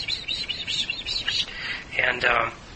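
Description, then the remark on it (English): A voice imitates a duck's quacking with a rapid run of high, squeaky chirps, followed by two longer, louder nasal calls near the end. “And I remember the ducks especially, because they made this really sweet little sound. They go kind of...”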